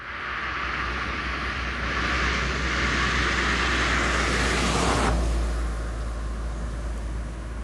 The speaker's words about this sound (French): Écoutez ce que ça donne, par exemple, une voiture qui arrive sur une chaussée classique et qui, pile devant nous, va passer sur du bitume anti-bruit.